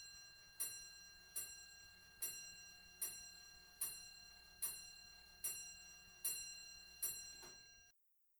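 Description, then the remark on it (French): A pendulum clock strikes midnight with a steady series of evenly spaced, ringing metallic chimes, each tone lingering into the next, clear with no voices. “Je ne pouvais moi-même en détourner mes regards et m'empêcher de suivre l'aiguille, qui marchait vers minuit à pas imperceptibles. Enfin, minuit sonna.”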